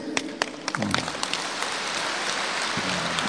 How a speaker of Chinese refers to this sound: 你看这个问题一问，很多人鼓掌了，说明很多人都是这样。